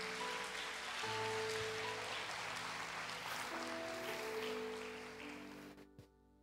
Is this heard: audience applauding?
yes